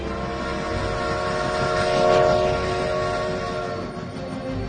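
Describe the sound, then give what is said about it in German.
A steam train rumbles past, its sustained horn sounding over the clatter of the wagons, swelling to a peak midway before slowly fading. No voices. “Unser Vampir 1894 kam mit der Eisenbahn.”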